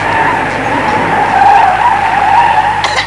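A bus veers from side to side, its tires squealing in a long, loud, steady skid over rough engine rumble for about three seconds, ending with a brief burst as the bus comes to a stop.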